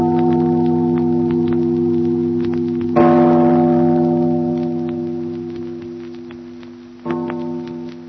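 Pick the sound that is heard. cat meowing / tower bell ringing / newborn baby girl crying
tower bell ringing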